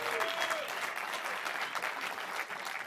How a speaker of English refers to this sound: That's a ripple of applause, right? A ripple of applause is... Okay, we didn't hear what he said, but I asked you to give him a round of applause anyway.